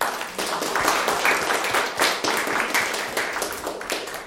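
A crowd bursts into steady applause for the people who contributed, including those at the projector, many hands clapping in a dense, sustained patter that stays fairly loud throughout, with no one speaking over it.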